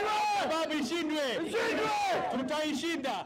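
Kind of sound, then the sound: crowd, crowd chanting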